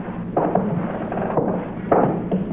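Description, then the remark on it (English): A few sharp, muffled gunshots pop at irregular intervals over a low, rumbling background, with no one speaking. “Mike, that shot, I thought you...”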